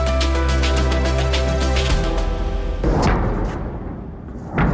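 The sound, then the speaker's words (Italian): A musical tone fades out, giving way to a deep, rumbling boom of missiles fired by Hezbollah at Israel from southern Lebanon near the border, followed by a second sharp blast moments later. Both are loud and broad, with no talking. “Quelli che sentite sono i botti dei missili sparati da Hezbollah contro Israele.”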